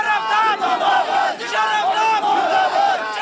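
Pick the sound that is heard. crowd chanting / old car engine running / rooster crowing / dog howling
crowd chanting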